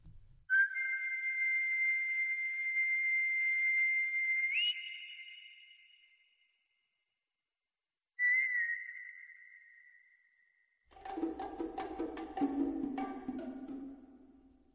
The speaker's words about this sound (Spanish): Y nos vamos al West Side. Y hay chasquidos y hay silbido. Y está esos timbales y ese sonido metálico que refleja de nuevo cómo suena la ciudad.